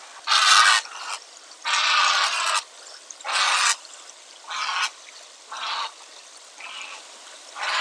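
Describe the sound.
A heron's harsh, croaking call repeats in about seven raspy bursts, the first ones loud and long and the later ones shorter and gradually fading. There is no talking.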